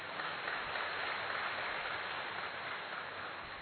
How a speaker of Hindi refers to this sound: वैसे आपने बजाइए भले ताली।